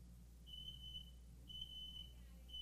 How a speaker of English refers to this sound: my smoke alarm is going off, and she's not going to know how to shut this off. You got to hold the button down. What are you doing? Fix, take the alarm off.